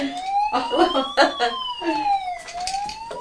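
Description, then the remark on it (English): A toy fire engine siren wails steadily, its electronic pitch climbing, dipping, then rising again, with faint voices murmuring underneath for the first part. “That fire engine. You like me to have that one because it makes a sound and you know I always press it by accident.”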